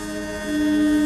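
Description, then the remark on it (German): The foghorns of two ships heading toward the middle of a lake at noon blare in a loud, sustained low drone, with a second steady horn tone joining halfway through and swelling the sound. No voices are heard. “Und als sie beide auf die Mitte vom See zusteuern, fangen sie mit ihren Nebelhörnern zu hupen an.”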